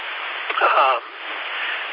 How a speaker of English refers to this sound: That's static, but, for some reason, it's just not, okay. Here's the frequency I was on, but, normally it's a little bit louder, I don't know. Things that you could try to do is set it up so that you hear the static.